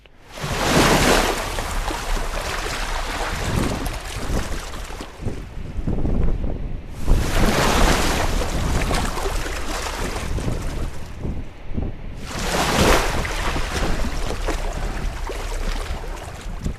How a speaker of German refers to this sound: Ja, der Wind ist stürmisch und aggressiv, aber das empfinde ich mehr als wohltuend, denn bei 45 Grad in der Sonne ist es an sich ziemlich heiß. Also erst einmal hinsetzen und der Musik der brechenden Wellen lauschen.